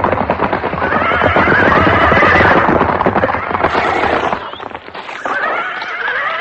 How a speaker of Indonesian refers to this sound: Iya, pasukan berkuda yang datang.